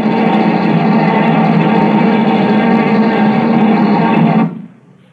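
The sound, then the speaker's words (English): A buzz bomb, sent at 1 o'clock at night toward a hotel in Mulberry Street, flies with a harsh, steady pulsing engine drone that roars loudly and unbroken for over four seconds, then abruptly cuts out, leaving only a faint fading rumble. “Time for tonight's buzz bomb.”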